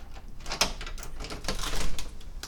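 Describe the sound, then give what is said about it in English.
A back door is opened for a cat onto cold 2-degree air: a sharp latch click, then a few softer clunks and rattles as it swings, over a steady rushing background hiss. “Opening the back door for my cat.”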